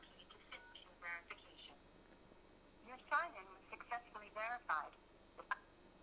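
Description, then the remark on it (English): A thin, telephone-quality recorded voice speaks in short bursts with brief pauses: an automated Microsoft sign-in verification phone call sent by the Azure service for multi-factor authentication, heard through a handset at moderate volume. “the NetScaler is going through that process of having multi-factor check the auth, and then the Azure service is, in this case, just sending me a phone call.”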